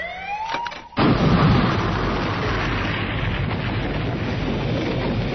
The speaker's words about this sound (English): The explosion lit the sky, tore a hole across the Triad fleet.